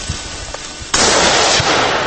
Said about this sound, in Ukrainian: Чорноморський біосферний заповідник. На його островах та косах можна побачити занесені до Червоної книги види качок, лебедів і навіть рідкісного в Україні рожевого пелікана. Проте віднедавна тут можна почути постріли.